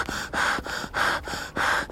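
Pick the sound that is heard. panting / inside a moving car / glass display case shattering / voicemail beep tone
panting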